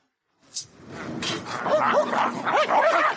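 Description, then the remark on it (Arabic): Several dogs bark and yelp all around in a continuous, overlapping chorus, the calls rising and falling against a busy, noisy background. “الكلاب في كل مكان، إنها من حولي.”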